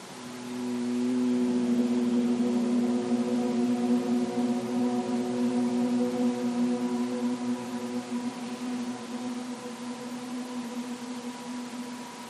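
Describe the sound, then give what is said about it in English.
A steady, low humming tone of Brahmari, the humming bee breath, held on one pitch for about ten seconds, rich in overtones, rising in at the start and sustained evenly like a bee's buzz, with no speech. “Three rounds of Brahmari, the sweet sound of the humming bee.”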